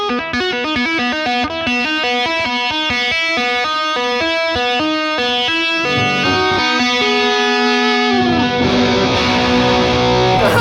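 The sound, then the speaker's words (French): An electric guitar plays a quick, steady riff of repeated notes with a light overdrive crunch, using little distortion, then resolves on an open B string and settles into sustained ringing chords near the end. No voices, played alone and fairly loud. “Donc là, en fait, tu vois, enfin, tu entends plutôt que quand on rock la corde sur le côté, eh ben, t'as pas besoin de beaucoup de distorsion.”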